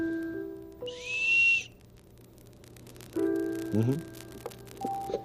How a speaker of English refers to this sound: And here's a plain, ordinary whistle.